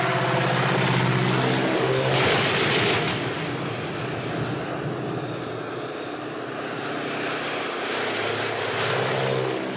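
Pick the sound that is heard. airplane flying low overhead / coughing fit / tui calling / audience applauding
airplane flying low overhead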